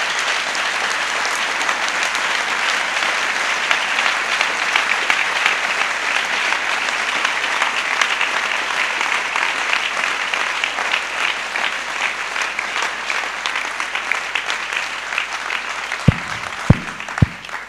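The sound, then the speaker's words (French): An audience claps for the Lord Jesus in a dense, sustained burst of applause that holds steady for the whole stretch, with a few sharp, louder claps standing out near the end. “Clap for the Lord Jesus.”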